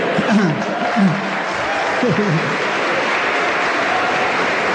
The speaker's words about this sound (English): It shows, don't take up too much of my 1 minute clapping, please. I'm very tired.